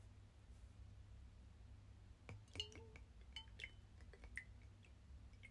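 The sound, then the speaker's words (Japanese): Small sake cups decorated with a cute rabbit clink together in a toast of Japanese sake in a soundproof room, a handful of light, ringing taps over a low steady hum, with no one speaking. “とはいえ、まあこの最近買った氷でこう日本酒冷やしておくことにできるとっくりと、かわいいうさぎちゃんの書いてあるおちょこで乾杯。”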